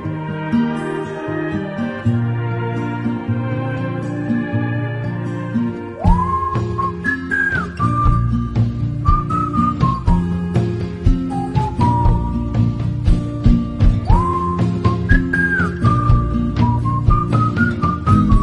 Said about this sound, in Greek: άλλος ένας καλλιτέχνης στον οποίο αρέσει πολύ να σφυρίζει.